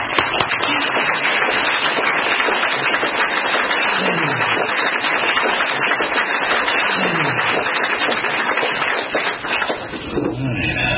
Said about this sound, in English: I hope everybody will join me in welcoming and giving a big hand.